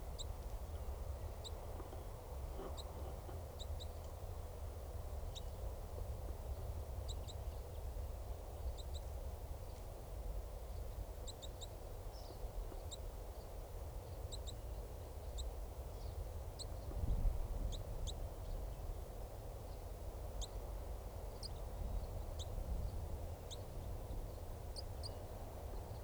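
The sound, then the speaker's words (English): A male bird gives chittering calls, bursts of short, high, thin notes repeated irregularly over a steady low rumble of background noise, with no talking. “And this is still that male. Giving chitter.”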